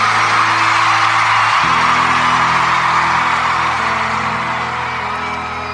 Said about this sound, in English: I'm also not just seeing people mouth the lyrics. I'm hearing people screaming every single word so loudly.